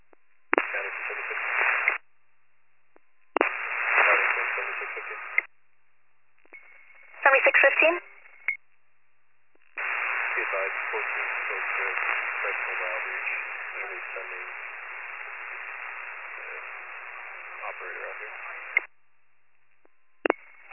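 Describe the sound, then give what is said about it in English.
Harsh, band-limited radio static comes in several short bursts separated by silence, then a long steady crackling hiss lasts about nine seconds before cutting off, with a final brief burst. “You're all static.”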